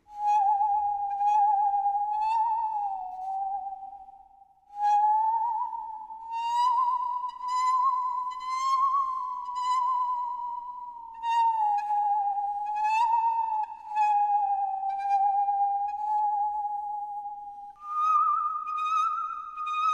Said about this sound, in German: so eine Säge ist ein vortreffliches Musikinstrument. Was? Das glaubt ihr nicht? Achtung, ich schnapp mir bloß einen Geigenbogen, biege die Säge ein wenig in Form und schon süngt meine Säge einen gar schön schauerlichen Süngsäggesang.